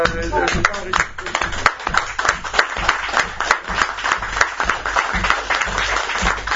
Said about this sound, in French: Je propose d'applaudir pour cette belle séance